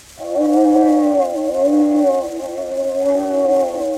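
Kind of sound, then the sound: animal, polar bear growling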